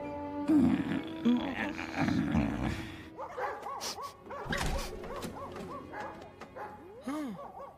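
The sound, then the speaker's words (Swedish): Several dogs bark and yelp, a burst of overlapping barks at first, then scattered higher yips and whimpering barks continuing through the rest. “Så då kanske ni kan dra ner lite på skällandet.”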